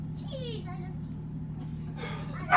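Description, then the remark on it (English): A dog whines in high, wavering whimpers, then lets out a short, louder bark-like burst near the end, all over a steady low background hum. “Even the dog's having a go.”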